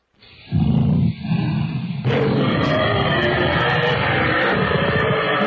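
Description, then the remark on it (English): A woman snoring while going to sleep: a loud, rough snore drones on for several seconds, a low raspy rumble that swells and thickens partway through, almost like a growl, with no talking. “I guess she's snoring.”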